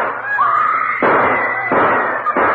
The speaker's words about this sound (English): Gunshots have thrown the courtroom into turmoil. Just what has happened, we hope to know in just a minute. After the shot, the voice shouted, I killed Dreyfus, out of my way or I'll kill